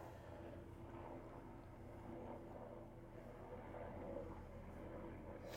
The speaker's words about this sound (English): Do we want to pause while let this helicopter fly by? Or? Sure. Okay. It's pretty low.